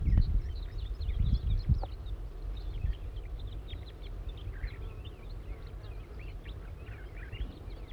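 A captured wild juvenile crossbill calls repeatedly, giving a steady, irregular stream of short, high chirps over a low rumble of wind noise; no one speaks.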